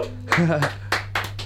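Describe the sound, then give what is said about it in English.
A few sharp hand claps land at an uneven pace, preceded by a short burst of voice, with a steady low hum running underneath throughout. “push the blue button while I clap.”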